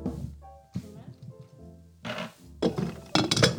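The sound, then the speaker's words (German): A home soda maker carbonates water in three loud, harsh bursts of hissing, buzzing gas, each lasting about half a second, after a quieter stretch of low humming tones. “Oh, das ist mein Soda. Mein Streamy ist das.”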